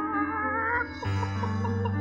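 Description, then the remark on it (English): Chickens cluck and warble steadily from an old houseboat on a river by moonlight, with a few higher wavering calls at first and then lower, repeated clucks over a sustained hum. No one speaks. “Chickens. It was definitely chickens.”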